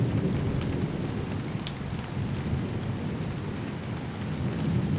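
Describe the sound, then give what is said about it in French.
A thunderstorm of titanic intensity over a village: dense, steady rain pours down with sharp drop spatters, under a continuous deep rumble of thunder, loud throughout, with no voices. “un orage d'une intensité titanesque s'est abattu sur le village.”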